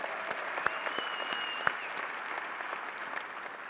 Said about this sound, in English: Let's give all them a hand out there. God bless y'all.